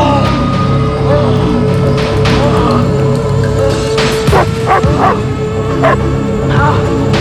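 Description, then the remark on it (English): A dog lets out a series of short yips and barks mixed with anxious whimpering as it backs away nervously from a man emerging from the earth in front of a headstone, over a steady low rumble of background noise. “The dog backs away nervously.”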